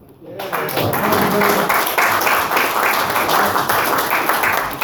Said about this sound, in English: Let's give him one more applause. One more. He's a great guy.